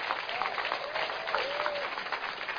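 A church audience applauds steadily, with dense clapping throughout and a few scattered whoops and cheers rising above it, loud and sustained for the whole stretch.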